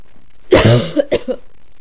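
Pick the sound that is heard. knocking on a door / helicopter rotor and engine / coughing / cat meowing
coughing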